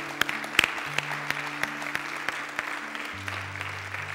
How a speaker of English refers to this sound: Let's give the Lord a clap today.